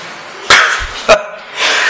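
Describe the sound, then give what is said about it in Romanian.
A dog barks twice, two sharp barks about half a second apart, with quiet background noise between and a faint hiss after. “Spunea una, domnul Marian, ăsta mă înțelege cel mai bine, domnul Marian, câinele.”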